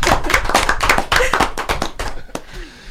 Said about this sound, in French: Ça ne se fait pas, mais franchement, j'ai trop envie. Je m'applaudis également.